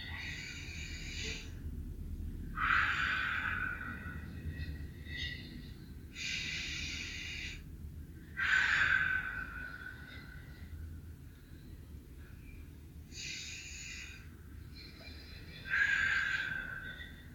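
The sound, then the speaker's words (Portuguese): Slow, deep diaphragmatic breathing: airy inhales and exhales alternate in a steady rhythm, each breath lasting a couple of seconds, with no talking over them. “Na hora que vocês chegarem no limite da inspiração, já pode expirar. Tá? É o que eu estou fazendo só para vocês ficarem mais visual.”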